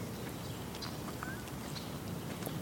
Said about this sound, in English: That's a cardinal, or I mean a chipmunk over there doing that chipping.